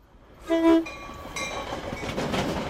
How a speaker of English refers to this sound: One flyover would be here near 63rd and State on Chicago's south side. Some Norfolk Southern freight trains sit for hours waiting for Metra commuter trains like this one to cross.